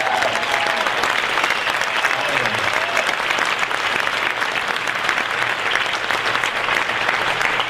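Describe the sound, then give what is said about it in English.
A sustained burst of audience applause, dense and steady clapping from a large crowd that fills the whole stretch at a fairly loud, even level. “Another round of applause for these people.”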